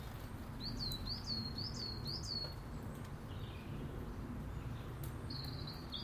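Sparrows chirp in a quick series of four bright, high chirps, then go quiet before another short burst near the end, over a steady low background hum. One sparrow is chasing another in and out of an apple tree on a cold, damp day.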